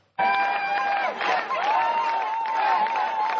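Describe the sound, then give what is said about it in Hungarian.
Supporters of the Együtt PM party burst into loud, steady applause mixed with sustained whoops and cheering voices, celebrating the election result on Sunday night, keeping a dense, unbroken roar for about three seconds. “Tapssal és örömújongással ünnepelték az Együtt PM-esek vasárnap éjszaka a választás eredményét.”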